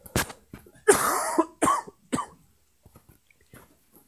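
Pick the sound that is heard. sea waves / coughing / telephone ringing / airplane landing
coughing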